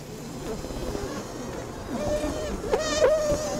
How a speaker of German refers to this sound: Wenn Bienenwächterinnen also eine Hornisse mit ihrem tiefen Brummen ausmachen, dann hat die Ruhe ein schlagartiges Ende.